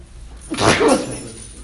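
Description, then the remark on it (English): A single sharp sneeze bursts out, a quick breathy explosion with a voiced edge lasting about half a second, followed by quiet room noise. “Look at the effect these sneezes can have.”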